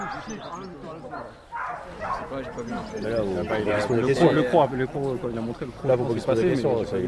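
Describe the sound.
A dog barks and yelps in repeated bursts, loud, during bite training as it bites a man in a padded protective vest who falls to his knees, while people talk over it and the commotion builds toward the end.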